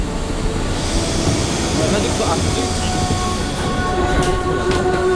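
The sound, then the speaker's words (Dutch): A metro train rumbles loudly and steadily through an underground metro station in Pyongyang decorated with mosaics, a dense low roar with faint high tonal whines drifting above it and indistinct voices murmuring in the background. “Dit metrostation in Pyongyang is versierd met prachtige mozaïeken.”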